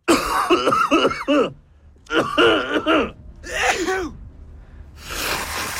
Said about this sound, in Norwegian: Kan du høre pappa nyse ned I vaskekjelleren?